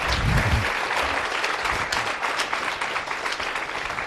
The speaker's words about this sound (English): A big round of applause our happy couples today. Tapsoljuk meg a boldog párjainkat.